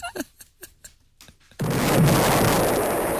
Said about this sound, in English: It's a belated explosion.